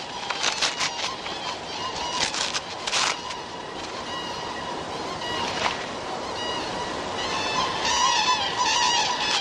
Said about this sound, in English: The gathering birds soon get down to the serious business of mating. Synchronized honking and strutting help strengthen bonds.